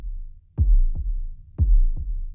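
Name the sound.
heartbeat thumping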